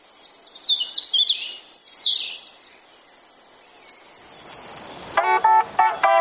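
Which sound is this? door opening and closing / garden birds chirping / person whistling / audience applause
garden birds chirping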